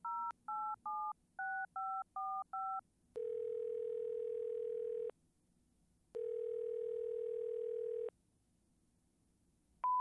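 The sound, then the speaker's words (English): A rapid string of eight touch-tone dialing beeps, followed by a steady, buzzy telephone tone after the other party has hung up, sounding in two long bursts of about two seconds each, separated by a pause. No one speaks. “I tell her not to hang up, and what does she do? She hangs up.”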